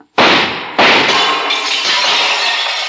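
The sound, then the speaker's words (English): Two sharp gunshots from Drasko's gun crack in quick succession, each bursting into loud shattering mirror glass, followed by a long bright wash of breaking and tinkling shards that carries on without any voices. “He's shooting.”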